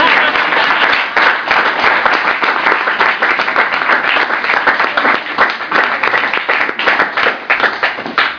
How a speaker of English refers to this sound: Yeah, clap it up for it.